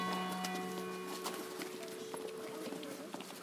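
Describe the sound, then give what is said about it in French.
Horse hooves clip-clop on a street in a loose, uneven patter of sharp knocks, heard over a steady background with faint sustained tones. “Je ne crois pas dire de bêtises parce qu'on entendait le clic-cloc, clic-cloc des sabots passant sous nos fenêtres.”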